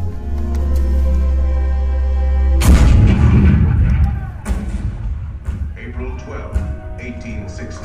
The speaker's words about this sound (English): Fort Sumter, the cannon spoke for war.